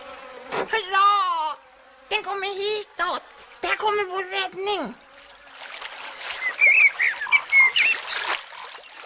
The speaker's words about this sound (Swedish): Det är ju bara en groda.